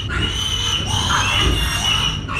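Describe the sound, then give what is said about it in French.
Piglets squeal continuously and loudly in a pig farm building with infrared heat lamps, a dense overlapping chorus of high-pitched cries as they jostle and fight for the sows' teats, with low grunting underneath and no pauses. “Ah oui, là, ils se battent pour accéder aux mamelles.”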